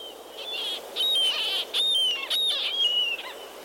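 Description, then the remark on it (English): A murrelet, a small endangered seabird that nests in old coastal forests on the west coast, gives a series of high, piercing keening calls, repeated several times in quick succession over a steady hiss of forest background, clear. “is a small, endangered seabird that nests in old coastal forests on the west coast.”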